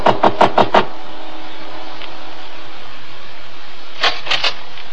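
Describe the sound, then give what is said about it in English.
Knocking on a front door: five quick, sharp raps, a pause of a few seconds with low background hum, then another brisk set of three or four knocks. No one speaks. “I took a deep breath and knocked.”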